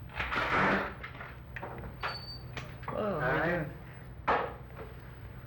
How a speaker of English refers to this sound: see what that loud thump was. What? Limb fell down.